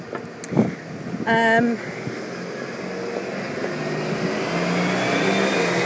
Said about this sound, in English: Just wait for a big dustbin lorry to go past there.